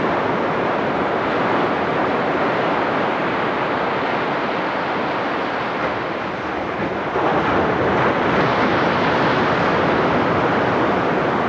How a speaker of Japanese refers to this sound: 震災以降と同様に、この波の音もまた次の世代に聞いてもらい、何かを感じ取ってもらえたらと思います。山本町中浜でした。